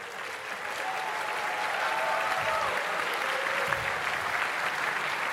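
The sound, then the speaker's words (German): Steady audience applause at a quiz for the leading team, a dense wash of clapping that holds at an even, fairly loud level for several seconds, with faint whistles or cheers threaded through it. “Einen großen Applaus.”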